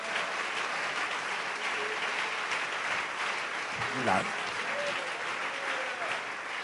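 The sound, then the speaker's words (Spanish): An audience applauds steadily for God, a dense, continuous wash of clapping from many hands at an even level, with a brief voice rising over it midway. “Un aplauso fuerte para nuestro Dios.”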